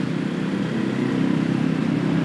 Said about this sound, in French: Là, il doit y avoir une bonne trentaine de motos autour de moi. Là, on est en train de se faufiler entre les deux bus, les camions.